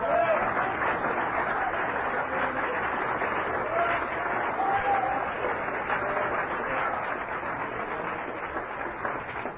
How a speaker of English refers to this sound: So hallelujah. Let's clap our hands for the Lord.